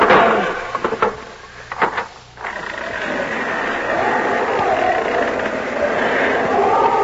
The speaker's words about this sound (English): Hold it while I open this door.